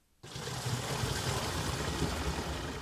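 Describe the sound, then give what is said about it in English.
Water suddenly starts gushing and splashing into a yellow plastic container being filled with clean water at a village water tap, a steady rushing pour that continues without a break. No voices are heard. “Water splashes into the yellow plastic container.”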